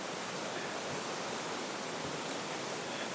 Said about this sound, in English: We're out of the wind now, back down in the valley, just doing the last few hundred metres back to the cars. Just crossing over the river, you might just be able to hear it in the background there.